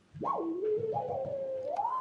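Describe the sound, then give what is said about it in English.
A steady sine-wave tone from a control vinyl record swoops up in pitch, drops, then holds and climbs again, with a low rumble and faint surface noise running underneath. No one speaks. “Can we hear it again? The sine wave?”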